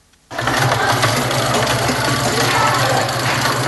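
Sewing machines hum and whir in tailoring workshops in Yaoundé, where apprentices are at work. The sound starts abruptly after a moment of silence and continues as a loud, steady mechanical drone with a low buzzing tone and busy rattling texture.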